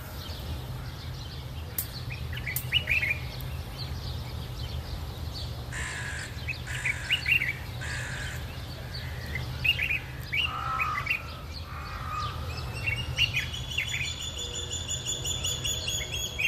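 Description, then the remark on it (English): A dawn chorus of many birds singing and chirping outdoors on Crocodile Island on the River Nile in Egypt, with repeated crow-like caws and bright overlapping calls over a steady low background hum. “we can hear the sound of the birds singing just as they are singing here in the early”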